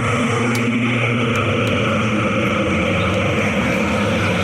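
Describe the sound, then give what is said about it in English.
A low, steady droning hum from an ancient cursed amulet, the amulet of Kauhoptep, fills the whole stretch, thick and rumbling with a faintly mechanical, engine-like quality, holding constant and fairly loud with no speech over it. “Sometimes the cursed amulet drones like that when it's not pleased with me.”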